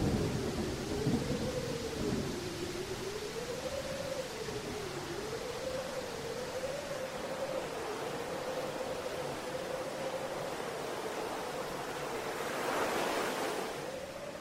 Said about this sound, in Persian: دوباره وارد هوای طوفانی و بارونی شدیم. دستامونو گرفتیم رو سرمون تا از بارون در امان باشیم.